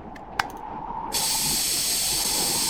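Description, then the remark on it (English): After a small click, an aerosol spray-on wound treatment hisses on in a steady, loud burst that continues without a break to the end. No one speaks. “Here's a spray on.”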